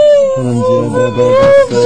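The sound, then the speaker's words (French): A woman weeping aloud with joy, a high, sustained, quavering wail held on nearly one pitch for about two seconds, loud, with no words. “Elle pleure de joie.”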